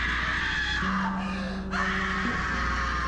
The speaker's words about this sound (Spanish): No pasaron ni 30 segundos cuando en la calle se escuchó un grito desgarrador.